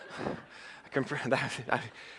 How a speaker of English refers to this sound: That was a loud gasp.